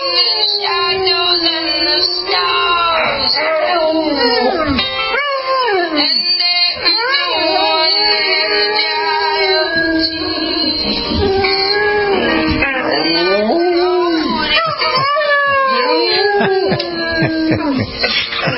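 A dog howls loudly and continuously along to a song, its long wavering wails sliding up and down in pitch over the music for the whole stretch.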